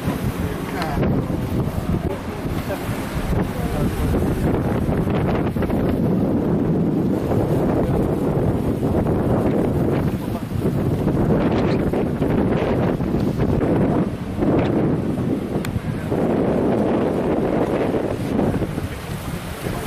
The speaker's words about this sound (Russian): Тут ветрено, и я постараюсь много не говорить, чтобы ветром меня не затюкало, тут не забило.